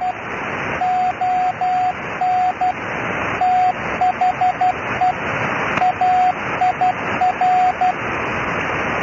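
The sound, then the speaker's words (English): Steady shortwave radio static hisses throughout, with a faint signal of short, evenly pitched beeps pulsing in uneven bursts beneath the noise, no voices: the shortwave station Bipolar Radio at its sign-on, sending CW and an ID. “Kind of a quiet signal and some medium static.”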